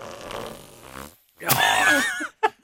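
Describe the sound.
A wet, sputtering fart-like blast made by blowing air through a drinking straw tucked in an armpit, starting with a low rumbling buzz then a louder squealing burst, followed by two short puffs.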